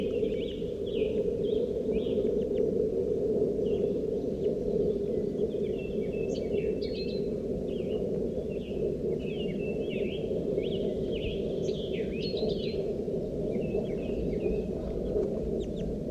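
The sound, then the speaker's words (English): A gray wild crossbill gives repeated short, chirpy call notes, scattered irregularly throughout, fairly faint, over a steady low rumbling background. “Wild bird just went down. Stop recording. I just caught this gray guy. It's a juvenile with a right crossing bill, and he's got some orange patches around his flanks and breast.”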